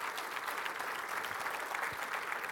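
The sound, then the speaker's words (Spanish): An audience applauds the Lord steadily, a dense wash of many hands clapping at a constant loud level for a few seconds, with no voices standing out. “Denle un fuerte aplauso al Señor, por favor.”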